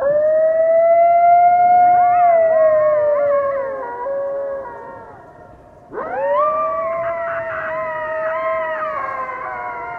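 A coyote howls in long, wavering cries that rise and fall, with other voices overlapping. After a brief dip, a second loud, drawn-out chorus of howls follows. No one speaks.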